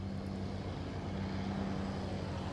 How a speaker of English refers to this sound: That's really loud. Yeah, it's a big truck.